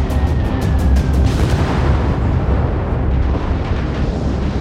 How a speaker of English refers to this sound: And destroys her in just the blink of an eye. The explosion on the USS Arizona kills 1,117 men.